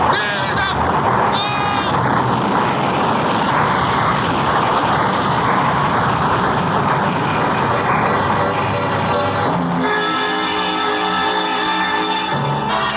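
A loud, steady avalanche roar of snow and ice coming from the snow park and roaring down the mountain, a dense rumbling rush that holds for the whole stretch, with strained, wavering cries rising above it near the end.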